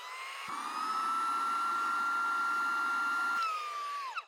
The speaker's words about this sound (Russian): Тюменский пылесос-батон. Прибраться за 30 секунд где угодно.